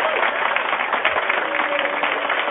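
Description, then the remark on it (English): A dense, steady wash of crowd noise: many overlapping voices blur into a continuous murmur that holds at an even, fairly loud level throughout, with no single voice standing out. “Over the crowd, trying to talk over the crowd. They calmed down.”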